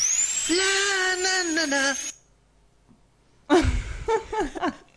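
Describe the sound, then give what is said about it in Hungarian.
A high-pitched power drill whines steadily in the background for about two seconds, then stops; after a pause, a voice hums a short wavering melody. “Dudolni fogja, és azt hiszem, hogy fúrnak a háttérben.”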